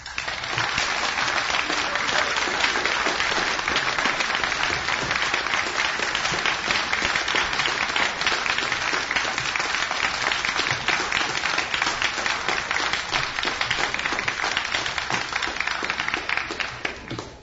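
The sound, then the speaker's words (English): An audience applauds steadily for about seventeen seconds for two speakers, many hands clapping in a dense, even roar that stays loud throughout and fades slightly only at the very end. “Okay, both speakers did travel quite a ways to be here, so if we can give them another round of applause for everything they've done.”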